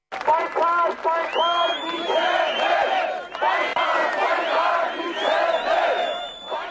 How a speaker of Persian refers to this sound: روز چهارشنبه هزاران نفر از طرفداران مخالفین به نشان اعتراض به میدان مرکزی یروان پایتخت این جمهوری ریختند.